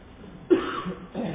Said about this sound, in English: If I get into a coughing fit or something up here, just bear with me. Just had a little cold.